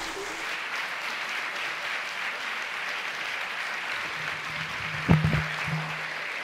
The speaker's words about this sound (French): Merci d'applaudir très fort Monsieur Poulpe.